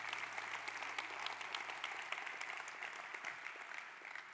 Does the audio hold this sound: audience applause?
yes